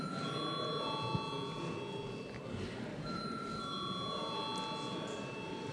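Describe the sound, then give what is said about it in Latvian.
A continuous electric bell rings steadily for several seconds in the Latvian parliament, the Saeima, calling members to a vote, a sustained metallic tone with faint murmuring voices underneath. “Lūdzu zvanu.”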